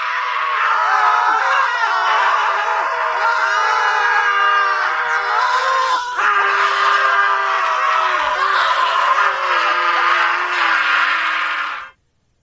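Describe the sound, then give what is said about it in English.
About thirty men scream together in one loud, sustained wall of overlapping voices lasting about twelve seconds before cutting off abruptly. “Like 30 guys walk into the room, start screaming, and then they just leave him.”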